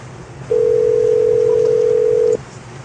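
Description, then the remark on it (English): A single ringing tone on a phone line, one steady electronic buzz lasting about two seconds, loud, over a faint low hum with no one speaking. “Hear it ringing. I hear it ringing.”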